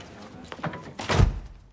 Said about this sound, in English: looks deep in thought as the door bearing a gold government crest shuts behind her.